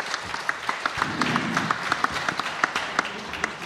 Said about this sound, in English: And I'd just like to hand you over to the fabulous Noel Thompson from BBC TV. Big round of applause for Noel, please, who'll introduce our speakers.